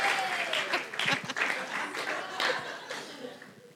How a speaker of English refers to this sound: Let's give him a round of applause. And let's just give these guys a round of applause for actually finishing off the cake.